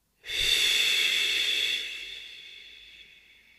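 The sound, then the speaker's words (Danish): A single long breath pushed out through loosely fluttering lips as a breathing exercise, a steady airy rush that holds for over a second and then slowly trails away. No one speaks. “Så skal man nærmest blaffre lidt med læberne.”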